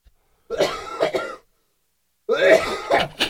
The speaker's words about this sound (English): I coughed. We know. I choked on.